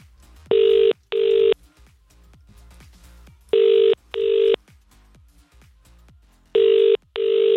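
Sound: phone call ringing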